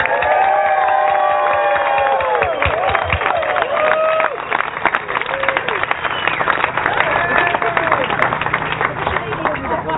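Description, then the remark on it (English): A large crowd roars with sustained cheering and applause, loud and dense throughout, with whoops and shouted voices rising over steady clapping that fills the whole stretch. “So the last thing I want to ask you to do is give yourself a big roar of applause.”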